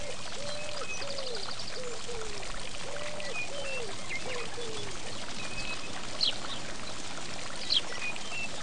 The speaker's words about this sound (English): The fountain is made of stone, and water streams down over ornate carvings.